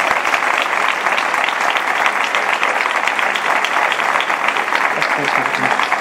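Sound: audience applause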